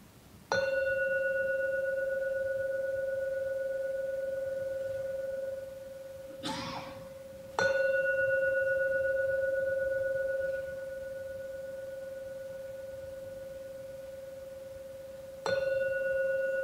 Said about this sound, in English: And when you're ready, you can fully open your eyes, keeping the space as we ring the bell.